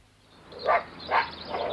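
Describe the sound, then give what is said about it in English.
Three dog barks in quick, fairly even succession, moderately loud, with no voices and only a faint background hum between them. “You let any one of them blasted dogs anywhere near my sheep, or I'll be back with me shotgun.”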